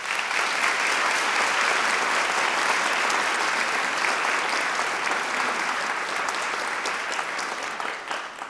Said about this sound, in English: Please give all of these organizations a warm round of applause.